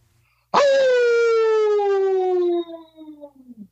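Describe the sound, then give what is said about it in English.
A person gives a loud, drawn-out imitation of a hound dog's howl, one long sliding wail that slowly drops in pitch, then trails off into a wavering, quavering finish. “all of our guests help us in closing out our show with their best old hound dog howl.”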